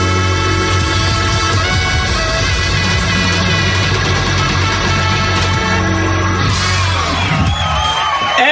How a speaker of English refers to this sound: Crowd goes wild with delirious joy.